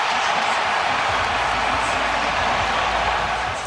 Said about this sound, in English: Oh, great. The crowd. That sounds really so good.